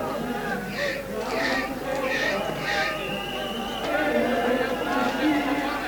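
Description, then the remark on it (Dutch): Several police horses' hooves clop in an even rhythm for a few seconds against a steady, dense crowd murmur, with overlapping voices filling the background throughout. “Er komen allemaal paarden.”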